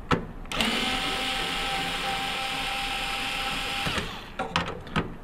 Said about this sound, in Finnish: Ja nyt seuraavaksi irroitamme prosessorin päältä jäähdyttimen.